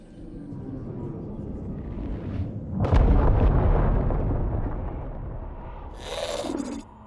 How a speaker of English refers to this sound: I heard it too. It sounded like an explosion.